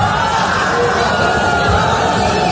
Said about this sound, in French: Comme vous pouvez l'entendre, la situation dégénère très vite. Des spectateurs s'interposent, des coups sont échangés. Le concert a été interrompu à 3 reprises.